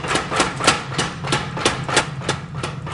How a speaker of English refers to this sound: Between blows on the anvil, a power hammer helps flatten the blade.